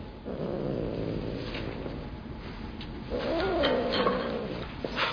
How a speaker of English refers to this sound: What bird kind is this? Biting kind, be careful.